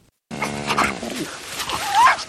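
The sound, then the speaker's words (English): In a film, a mother sheepdog whines and whimpers to her puppies, with higher puppy-like yips mixed in, ending on a rising, drawn-out whine over about two seconds. “all the animals can talk, and what we hear is a mother sheepdog talking to her puppies about the pig and briefly with the pig and with a comment thrown in from a horse.”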